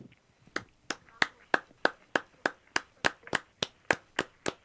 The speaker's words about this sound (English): Love those claps.